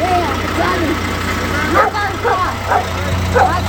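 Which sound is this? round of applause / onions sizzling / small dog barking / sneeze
small dog barking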